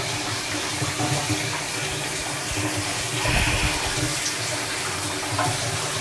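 running shower water

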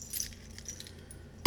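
keys jangling

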